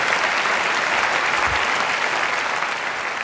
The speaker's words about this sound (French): Sa réponse, c'est oui, plus que jamais. Et il est applaudi à tout rompre par la salle après avoir dit ça.